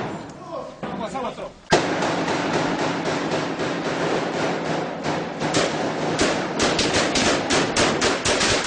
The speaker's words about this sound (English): we actually have some audio of gunfire between an attack by La Familia exchanging gunfire with the military. And we want to play it just to give listeners a sense of the kind of machinery that they have to work with.